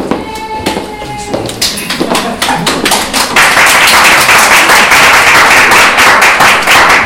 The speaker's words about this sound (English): I was just waiting for that applause to come to fruition.